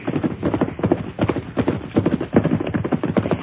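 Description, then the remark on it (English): The hoofbeats of an approaching rider's horse clatter in a steady, quick clip-clop rhythm, many hard thuds in a row, fairly loud and heard on their own with no voices. “Somebody's headed this way. We'll stay out of sight.”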